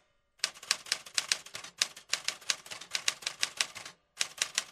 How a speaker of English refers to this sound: To find out why the clatter of typewriters is part of this year's Fringe Fest, we talked to the host of the Fringe Feels booth.